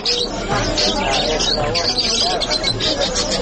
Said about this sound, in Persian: دوستان گرامی، کناری پرنده کوچک و خوش‌آواز است که برخی از افغان‌ها آن را نگه می‌دارند.